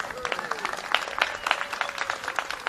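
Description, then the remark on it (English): A small crowd applauds outdoors on a sunny plaza in San Francisco at the opening of the Doris Vincent Apartments, a steady patter of many hands clapping at moderate volume for a few seconds, with faint background murmur and a tonal hum. “Yeah, let's clap.”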